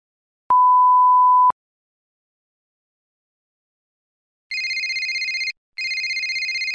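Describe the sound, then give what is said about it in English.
A single steady electronic beep, a pause, then a telephone rings with two close, warbling trill bursts, loud and clear with no voices, for a call between a student and a recruiter about a summer job. “Kate and the recruiter are talking on the phone.”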